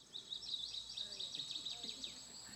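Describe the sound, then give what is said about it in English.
Birdsong fills the scene, a steady run of rapid, high-pitched chirps repeating without pause, soft, like outdoor nature ambience, with no one talking. “I would have to kill those birds to go to sleep, because that would just drive me absolutely insane.”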